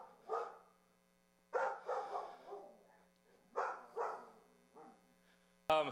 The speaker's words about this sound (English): This is a German Shepherd whose owners bought him a nice stuffed toy tiger. And you're going to get to see his reaction to that.